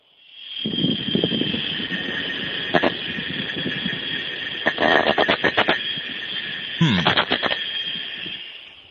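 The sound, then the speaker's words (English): A plastic object grinds and scrapes against the plastic body of a small Skype Wi-Fi phone in uneven rasping bursts with a few sharp clicks, all over a steady telephone-line hiss. No one speaks. “Well, from the sound it's making against the phone, it sounds like it's plastic on plastic.”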